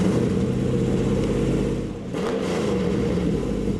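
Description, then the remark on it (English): A 550-horsepower Camaro engine, fitted with a prototype transmission under torture testing, roars loudly at high revs during wide-open-throttle runs in 110-degree heat. It briefly eases off midway, then climbs again into a sustained, throaty full-throttle drone. “They've bolted it into a Camaro with a 550-horsepower engine. Well, this car runs all day long, wide open throttle launches.”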